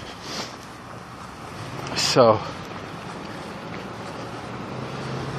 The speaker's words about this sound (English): Oh, there's trucks everywhere here.